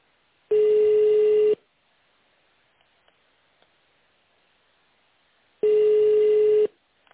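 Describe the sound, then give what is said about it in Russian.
A telephone ringback tone sounds while a call to the Digis group of companies connects: two steady, mid-pitched buzzing beeps, each about a second long, separated by a long stretch of near silence. “В связи с переводом сотрудников на удаленный режим работы соединение займет чуть больше времени, чем обычно. Благодарим за терпение.”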